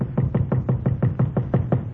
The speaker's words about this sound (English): Then 3 years go by, and one night I am sitting in my hotel room, and I hear a knocking on my door.